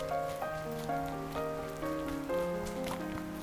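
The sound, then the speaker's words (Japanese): Rain that has suddenly started falling on the way home from school patters on hard surfaces as a continuous soft hiss, with a gentle melodic tune playing over it at an even volume. “急に雨が降ってきた。”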